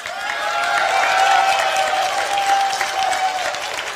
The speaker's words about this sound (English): Milo's statement is a provocation. It's not a particularly skilled one. And yet, those people cheering, they got provoked. This is his business model. I find appalling the applause part.